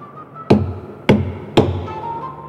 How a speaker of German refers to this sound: Lass das sein. Was? An den Sarg klopfen. Ich hab nicht an den Sarg geklopft. Also ich bestimmt auch nicht.